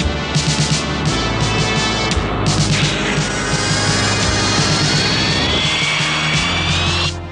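Imperial fighter craft launch with a loud, steady jet engine roar, rising whines sweeping upward as they accelerate, with thumping bursts underneath throughout.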